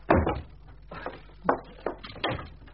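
A door being opened, heard as a short series of clunks and knocks from the latch and frame, with a soft rattle between the louder thumps.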